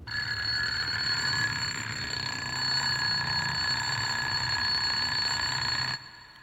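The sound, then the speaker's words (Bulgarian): A loud, continuous electric bell rings steadily for about six seconds with a bright metallic shimmer, then cuts off abruptly, leaving faint room tone. “Звънецът силно извънява.”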